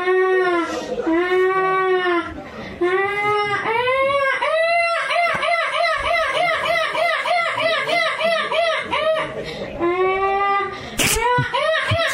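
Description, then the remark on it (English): A boy's voice imitates a seagull: loud, high wailing cries that swoop up and down, then a rapid, laughing run of yelping calls, ending with a few more long wails. “All right, let's start with Seagull Boy.”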